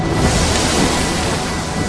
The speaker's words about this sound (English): Three crew members stand behind the woman at the wheel. A wave splashes the deck and the camera's lens.